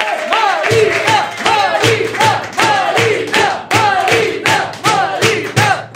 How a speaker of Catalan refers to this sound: Rebem un fort aplaudiment a …!